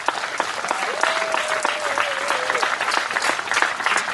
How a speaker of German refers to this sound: Alle, die sich hier irgendwie eine Mühe gemacht haben, irgendwie einen Schnitzel gebraten haben, irgendwie den Parkplatz gefegt haben vorher, keine Ahnung, was auch immer. Herzlichen Applaus von uns für euch.